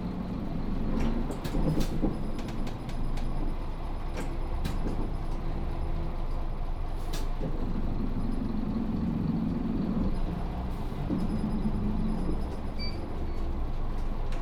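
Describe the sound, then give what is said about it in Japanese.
A city bus, route 504 bound for Tenjin via the urban expressway, rumbles and revs as it departs a stop and keeps driving, a steady interior drone with some rattles and clicks and no one talking. “発車します。”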